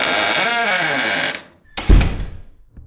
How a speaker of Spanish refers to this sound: Mientras estábamos hablando, la puerta se cerró de repente.